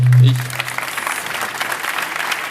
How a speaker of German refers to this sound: Dann einen herzlichen Applaus für die beiden.